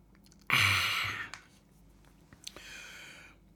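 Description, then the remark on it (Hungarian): An airy slurp of a sip of water, followed after a pause by a second softer, shorter sip; no one speaks, and it is otherwise quiet. “Na, egy korty vizecskét.”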